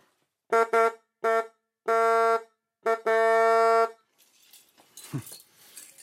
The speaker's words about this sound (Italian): Ah, e c'è anche il clacson della macchina di mio nonno.